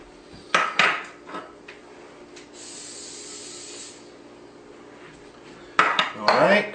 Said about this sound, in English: I've got these cute little baking tins. Look at that. Aren't those cute? That's what I'm using today. So what I'm going to do is I'm going to take some non-stick spray and I'm just going to spray these over near the sink and I'll be back.